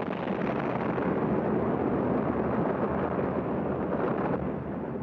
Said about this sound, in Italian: i bombardieri alleati scaricarono sulla stazione di Chiusi 27 tonnellate di bombe. Il fabbricato venne raso al suolo. Vidi gli edifici della stazione scomparire sotto ad una nuvola di polvere e calcinacci volare ovunque. Poi un'esplosione più forte.